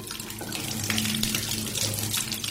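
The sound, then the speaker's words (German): Water runs steadily from a tap, splashing and trickling into a basin with a constant, moderately loud flow and no voices. “Genau, das Plätschern eines Wasserhahns.”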